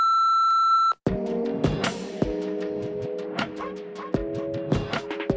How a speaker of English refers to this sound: Leave a message after the beep, but remember, it's your world. We're just not listening right now.